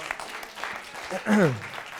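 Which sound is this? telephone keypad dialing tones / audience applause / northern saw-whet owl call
audience applause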